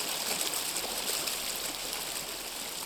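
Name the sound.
river stream flowing water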